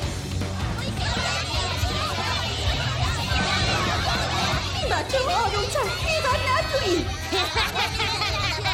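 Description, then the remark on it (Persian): A loud, continuous din of pupils from Mazagaki Elementary School chattering, shouting and playing all at once, with high excited voices overlapping throughout and no single voice standing out. “بچه ها آروم چند خیبر نتویی. خدای من، لطفا یه دقیقه آروم بگیرین.”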